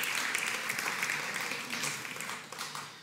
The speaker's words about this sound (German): Oh, geben wir auch euch einen tollen Applaus.